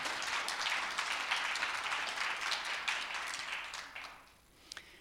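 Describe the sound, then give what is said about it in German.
An audience in a room applauds the decorating ladies with dense, steady clapping that holds for about four seconds, then fades away, leaving a couple of last scattered claps. “Gibt es mal einen Applaus für die Dekodamen hier in diesem Raum?”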